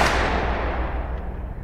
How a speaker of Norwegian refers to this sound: Før noen rakk å reagere, hadde mannen trukket en pistol fra bukselinningen, gått helt fram til Oswald og stukket pistolen rett inn i magen hans. Så lød et høyt smell.